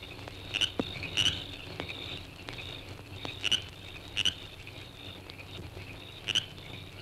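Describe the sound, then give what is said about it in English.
Frogs call in repeated sharp chirps at irregular intervals over a steady, high cricket trill, with a faint low rumble underneath. A nighttime outdoor chorus of frogs and crickets near a fishing lake in Florida, with no voices. “If you're a Florida fisherman, you surely recognize the happy sounds of frogs and crickets near a good fishing lake.”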